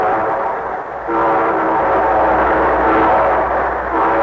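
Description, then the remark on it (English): A steam train sound effect for The Railroad Hour radio show rumbles along steadily, with a loud, sustained whistle blowing over the chugging, prominent, and no voices. “And here's our star-studded show train.”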